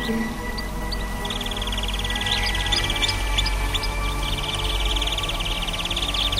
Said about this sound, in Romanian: Înfiorată numai de ciripitul păsărelilor. Cântă cu adevărat. Să știi că vocea lor nu e înregistrată.